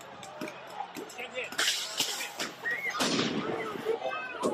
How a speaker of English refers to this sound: There are people throwing fireworks and who knows what else. It's mostly peaceful, though.